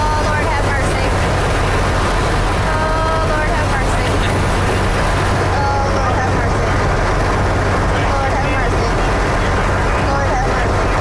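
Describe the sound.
A loud, steady roar of wind rushing in through the opened door of a climbing plane before a skydive, layered over a low engine drone, with muffled voices faintly audible beneath the noise throughout.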